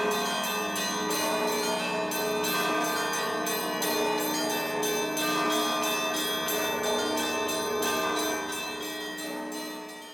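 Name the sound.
many church bells ringing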